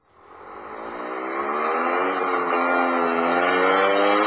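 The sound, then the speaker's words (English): A small Chavez Scooter motor scooter engine from Pedro Chavez Motors revs up and whines steadily higher as it zooms off, the buzzing tone growing louder and holding at a high pitch with no talking. “Zoom around Madrid, or Valencia, or even outrun the bulls in Pamplona.”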